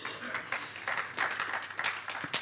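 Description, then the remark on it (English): An audience claps for a testimony, in a dense, steady burst of applause, many hands overlapping into a continuous crackling patter with a few sharper claps standing out. “So can you clap for that testimony?”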